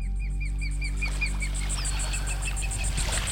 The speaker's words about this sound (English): I think that's a baby eagle. Sounds like it.